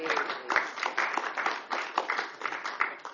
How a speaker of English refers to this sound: Please rise and recognize we're going to give you a round of applause.